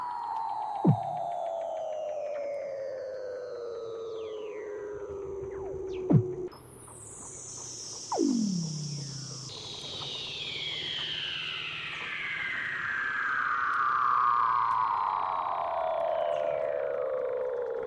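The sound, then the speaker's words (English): Seal calls recorded underwater, as heard when diving: long, eerie descending whistles and sweeping trills overlap one another, punctuated by a few sharp downward chirps, with no talking. “And you can hear them underwater when you're diving, and it's really incredible.”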